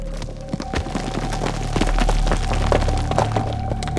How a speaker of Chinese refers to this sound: 米赫尼见了之后大惊失色，他捡起一块岩石砸向蜈蚣，岩石随后滚入了山谷。